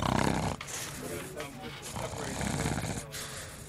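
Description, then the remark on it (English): A caller on phone line one, asleep and taking a nap, snores heavily over the phone line, rough rasping breaths repeating in a steady rhythm, fairly loud with a noisy, gritty texture. “Oh, person on, would you believe, on phone number one is asleep, taking a nap. Let's snore for us.”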